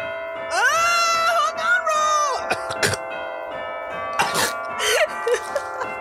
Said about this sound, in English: Can you turn off the fucking bell? How long is that? I know. What kind of church do you go to, bitch? So long. It's to stress you guys out. I am stressed. I'm like, is it gonna end anytime soon?